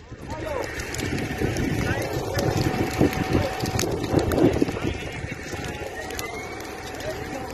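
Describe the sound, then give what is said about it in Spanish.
Flames of a wildfire that has reached 10,000 hectares with a 40-kilometre perimeter, about 20 kilometres from Ávila, crackle steadily, with dense irregular snaps and pops over a constant roaring rush that stays loud for the whole stretch. “Solo de escuchar el chasquido de las llamas se queda uno sin habla.”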